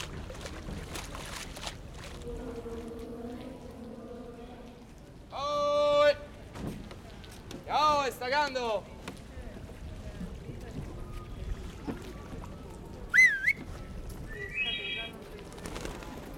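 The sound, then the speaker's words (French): Harbour ambience aboard a moored Bavaria 39 sailing yacht: a steady low background with a few loud, wavering bird cries and some shorter chirps later on. “alors que je viens d'arriver sur le bateau. Un Bavaria 39 pour passer le week-end en mer.”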